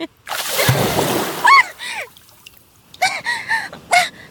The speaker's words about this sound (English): What the fuck? Why did you just splash me?